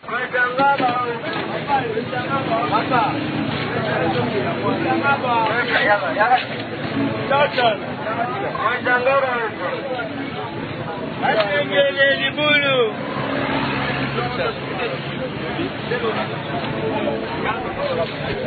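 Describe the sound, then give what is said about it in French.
The busy outdoor square Place Victoire, filled with steady crowd chatter and overlapping voices, with traffic rumbling underneath. The din stays loud and continuous throughout, with no single voice standing out. “Nous sommes là sur la place Victoire en partance vers Rond-Point Gaba.”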